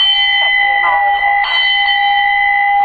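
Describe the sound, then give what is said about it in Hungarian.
A bell inscribed as the gift of Jakab Sándor and his wife Bécsi Ilona is rung repeatedly by pulling, its loud, sustained metallic tone ringing on throughout, freshly struck a few times at uneven intervals. “megrángatták ezt a harangot, és jelezték, hogy itt vagyunk, most már lehet velünk is foglalkozni.”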